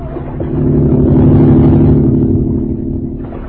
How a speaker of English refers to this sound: That driverless boat is heading toward us again.